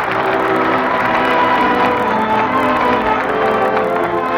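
The Lux Radio Theater studio audience in Hollywood applauds, a dense, steady wash of clapping that holds at a loud, even level for about four seconds without easing off, with no one speaking over it.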